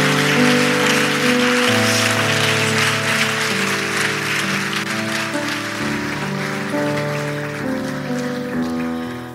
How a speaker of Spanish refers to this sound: Démosle un fuerte aplauso aquí, mi amor.